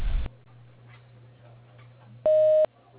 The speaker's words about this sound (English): You know the drill. Leave a message and your number after the beep, and I will return the call promptly.